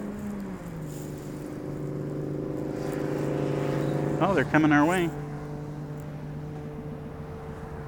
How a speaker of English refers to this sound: Oh, we got a motorcycle sound.